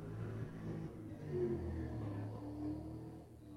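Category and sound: vehicle, car engine revving nearby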